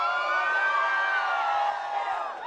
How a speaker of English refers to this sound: Somebody open your mouth and scream in this place and shout.